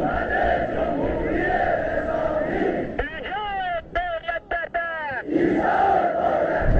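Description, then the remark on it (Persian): A large crowd of marchers in Tehran chants loudly in unison during the Tasua and Ashura march of 1357. The roar breaks off midway for a few rising, wavering calls from fewer voices, then the massed chanting surges back in. “راهپیمایی عظیم مردم تهران در تاسوعا و عاشورای 57 رفراندومی است که نشان می دهد شاه شانسی برای بقا ندارد.”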